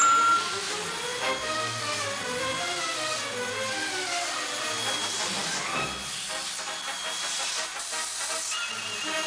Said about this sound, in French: Regardez, Aldo, votre aspirateur se fâche.